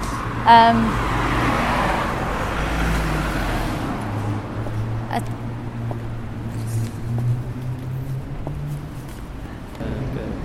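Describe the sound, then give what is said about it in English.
Steady street traffic just past a Tesco, where cars come round a corner fast and many buses pass: cars rolling past and the low rumble of a large vehicle like a bus, plus a brief sharp click or horn-like tone early on, under a continuous roadway hum. “it seems like you nearly get run over, because just past Tesco's the cars come round the corner, so you can't really see them coming, and lots of buses come round here.”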